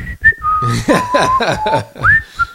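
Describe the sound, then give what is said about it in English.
A person whistles a short, wandering tune, with sliding notes that rise and fall over a couple of seconds, fairly loud and clear with no talking. “Like your average happy terrorist is going to be like...”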